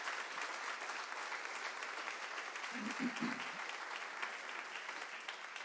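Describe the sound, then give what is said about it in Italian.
A standing audience applauds for Jesus during worship, a dense wash of many hands clapping at an even level throughout, with a brief low voice-like murmur surfacing midway. “Sì, battiamo le mani, facciamo un applauso a Gesù.”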